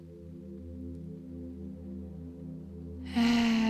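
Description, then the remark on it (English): A steady, low droning tone hums quietly, then a loud, breathy rush of air bursts in near the end, like a deep exhale during a guided breathing exercise. No one speaks. “Inhale. And let's exhale together.”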